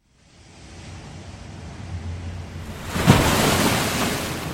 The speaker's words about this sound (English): Oh, gosh, that was a huge wave, but it, wow. It has not washed any selkies up. It's quite a destructive force, the sea, isn't it?